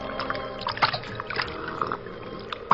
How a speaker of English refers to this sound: Place, a bank of the Salinas River in California. Two men scramble down the bank to the water's edge, and the larger of the two, an ungainly giant of a man, throws himself at full length and greedily drinks from the river.